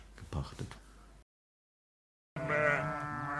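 After a short burst of sound and a moment of silence, a sheep bleats loudly, a sustained, wavering cry that lasts about a second.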